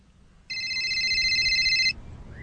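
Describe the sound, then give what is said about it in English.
A single long telephone ring of about a second and a half, a steady, bright electronic trill with high stacked tones, over a faint low background hum, as on an outgoing call to a Subway restaurant. “Terrence, calling a business on behalf of, I believe, Jared from Subway.”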